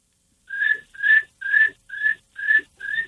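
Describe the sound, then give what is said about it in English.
A person whistles an imitation of cricket chirping: six short, bright, evenly spaced chirps at a steady rhythm, fairly loud, with no talking. “text in earlier saying that I can do the cricket noise.”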